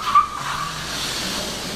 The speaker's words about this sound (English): Here's the tram.